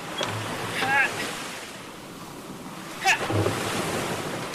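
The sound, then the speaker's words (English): A gust of salty sea wind rushes in as a door on a ship is released, blowing steadily over the roar of surf and swelling briefly toward the end, while a couple of faint, high chirping calls cut through the blustery noise. “She released the door, and a gust of salty wind made me flinch.”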